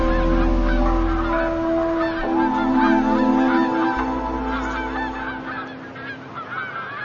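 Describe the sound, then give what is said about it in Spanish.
A flock of geese honks continuously at a temporary lagoon used as a winter home on their migration route, many overlapping calls forming a dense, noisy chorus that stays loud and steady throughout, with a low rumble underneath. “Las grullas o los gansos no podrían sobrevivir sin estas aguas efímeras que les sirven de hogar invernal, de refugio y de descanso.”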